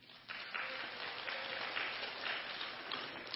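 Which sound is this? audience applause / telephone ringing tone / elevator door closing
audience applause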